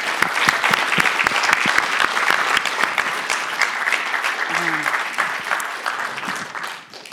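A room full of people claps steadily for several seconds, dense overlapping hand claps at even loudness, thinning slightly toward the end as the applause begins to fade.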